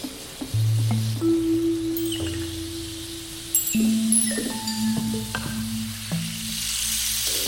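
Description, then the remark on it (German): Rain falls in a steady, dense hiss. Sustained low electronic tones and a few higher chirps run underneath, with no one talking. “Endlich Regen.”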